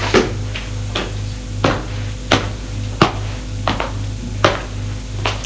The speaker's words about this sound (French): Des pas.